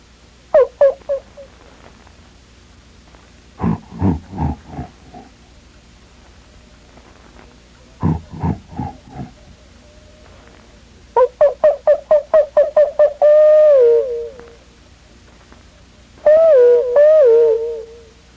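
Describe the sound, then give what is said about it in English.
Bush ambience in the middle of the afternoon with a low steady hiss, broken by far-off animal calls: short bursts of rapid barks or grunts, then wavering, falling howls near the end. No one speaks. “That's the way the bush sounds in the middle of the afternoon. Something way off is barking, something is howling, something is grunting, something is calling, bell-like sounds.”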